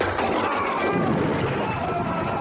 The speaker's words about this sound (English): Oh, he's been struck by lightning yet again.